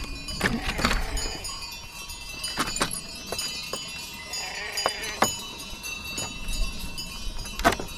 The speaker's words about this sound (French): Attention, troupeau qui tond la pelouse paisiblement. C'est vrai qu'on entend les sonnailles. Ouais, il y a la présence donc d'un troupeau de brebis, donc c'est pour ça que le portail est fermé.